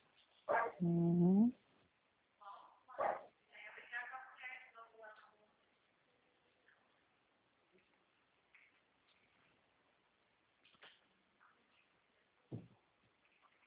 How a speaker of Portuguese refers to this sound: Escutei um cachorro latindo aí no fundo da senhora?